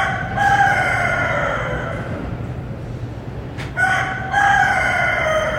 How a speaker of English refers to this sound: Yeah, you're hearing it right. That's a rooster. Entirely harmless in comparison to the different issues in the Tenderloin, but this loud bird has been terrorizing residents in the neighborhood for months.